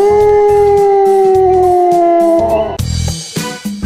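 A dog lets out one long, loud howl that slowly sinks in pitch over a steady pulsing beat, then breaks off into a few harsh, noisy bursts.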